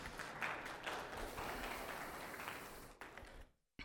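An audience breaks into steady applause, a dense wash of many hands clapping together for about three seconds before it quickly fades and cuts off.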